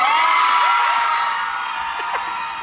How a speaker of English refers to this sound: And it just goes. This is a long, sustained cheer. Sheer joy